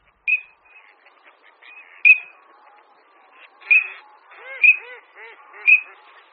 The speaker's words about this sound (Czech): Šírka obecná je naší nejmenší kachnou. Je velká jen asi jako holub. A když ji srovnáme velikostně s naší nejběžnější kachnou, kachnou divokou, tak v porovnání dosahuje asi její čtvrtinové hmotnosti.